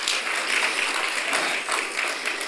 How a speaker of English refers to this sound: I want to give a hand clap to the Lord.